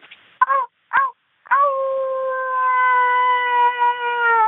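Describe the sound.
A person imitates a werewolf howl: two short yipping yelps followed by a long, sustained, slightly wavering howl held steady at a mid-high pitch, loud and with no talking.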